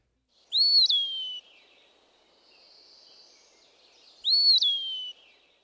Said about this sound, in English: As with many other woodland birds, the low visual profile of the Eastern Wood Pewee makes its song an especially useful one to know. Here it is again.